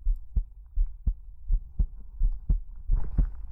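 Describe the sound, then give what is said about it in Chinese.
A steady heartbeat thuds at a calm, even pace, each beat a deep, muffled double pulse, clear with no voices over it. “仔细聆听心跳的复苏之音，这是我对你的祝福。”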